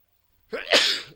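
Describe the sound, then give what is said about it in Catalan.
A single sharp sneeze, fairly loud, put down to spring pollen, with a quick breathy intake followed by an explosive burst that trails off within about half a second. “Disculpeu. Salut.”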